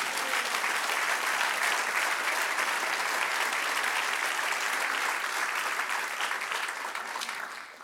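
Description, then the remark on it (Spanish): An audience applauds steadily for the one who reigns, a dense wash of clapping that holds at a strong, even level for several seconds before beginning to taper off at the end. “Dele otro aplauso al que reina.”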